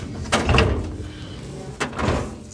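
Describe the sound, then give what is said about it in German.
A metal hanging-file drawer in an office rolls and bumps shut twice as files are put away while a desk is tidied for the weekend, each motion a short rumbling slide ending in a soft clunk, with a quiet pause between them. “Die Akten wandern in Schubladen mit Hängeregister neben Fällen, die keiner gleich ist wie der andere.”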